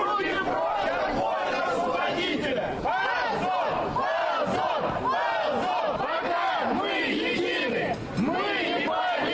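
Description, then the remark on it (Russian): A dense crowd of protesters shouts and yells continuously outside the main entrance of an embassy in Maly Kislovsky Lane, supporters of the Young Guard movement and locals, many voices overlapping in rising and falling cries, loud throughout with a brief dip near the end; music playing from loudspeakers is buried under the shouting. “Звучащих из колонок музыкантов периодически перекрикивают митингующие.”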